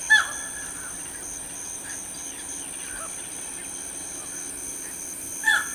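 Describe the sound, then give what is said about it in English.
Two loud, harsh squawks from a yellow-crowned night heron in a cypress bayou wetland, one at the very start and one near the end, separated by a quiet stretch with a faint, steady insect-like hum in the background. “The bayou's luxuriant wetness supports lush growth of trees and shrubs, which in turn offer secluded nesting for a broad range of birds, like the striking yellow-crowned night heron.”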